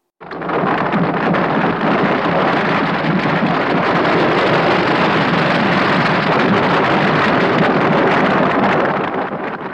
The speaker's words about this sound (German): Als der Sturm vorüber war, kam ein starkes Erdbeben.